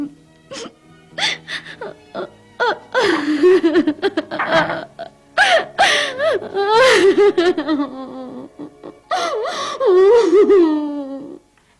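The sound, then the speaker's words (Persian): A young girl sobs, with broken gasping breaths between drawn-out, wavering wails that rise and fall for several seconds, growing louder and more continuous toward the end. “خیلی خوب، هر چقدر خواستی گریه کن تا راحت بشی، بعدش هم سعی کن بخوابی، باشه”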